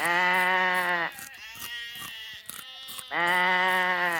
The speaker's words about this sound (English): Allez, on range les moutons, place aux animaux.